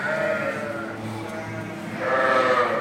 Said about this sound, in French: On a 700 brebis. Ce lot-là, c'est un lot qui va faire l'agneau au printemps pour la traite de l'été. Là, on a les dernières qui ont fait l'agneau, les toutes dernières.